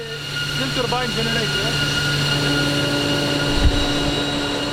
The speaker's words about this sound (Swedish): Det är också ett av Mellanösterns allra vanligaste ljud, det här brummandet från elgeneratorer.